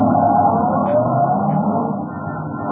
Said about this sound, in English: My cab is waiting. Won't you step in? All right, driver, to the little theater.